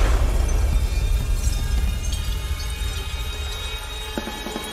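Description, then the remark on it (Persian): A loud explosion as the lights come on and all the glass panes burst, roaring with deep rumbling and dense crackling noise, while scattered sharp clinks of shattering glass and shards flying through the air sound through the slowly fading blast. No one speaks. “چراغا روشن شد، همه ی شیشه ها منفجر شدن، خورده هاش پاشید رو هوا.”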